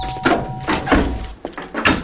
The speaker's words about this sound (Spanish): Llaman a la puerta. El mayordomo acude.